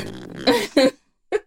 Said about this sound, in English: we can hear your chair.